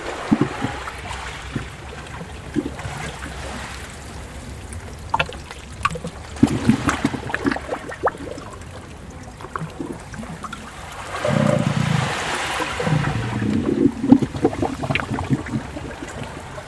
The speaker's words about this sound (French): De la mer qui s'infiltre. Dans les moindres veines rocheuses.